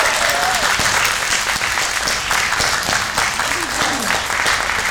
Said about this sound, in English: give me a rousing applause.